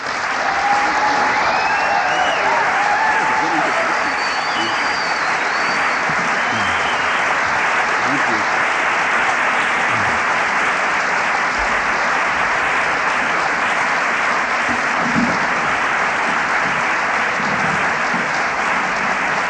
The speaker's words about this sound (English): Thank you. That was so nice. Sometimes it gets embarrassing when the applause are longer before the talk than after the talk.